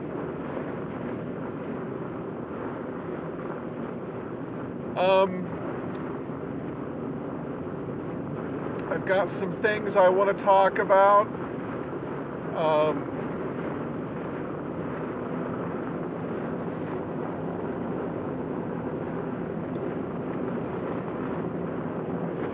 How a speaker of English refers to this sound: Because not only am I getting all the noise, it's a very noisy car. It's made to be efficient, not be nice.